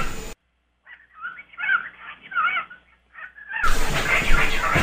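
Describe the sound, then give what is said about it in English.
A pet bird babbles in a run of short, squeaky, high-pitched chirps and warbles that rise and fall, lasting about three seconds, framed by harsh bursts of hissing noise before and after. “I don't think your bird is saying anything.”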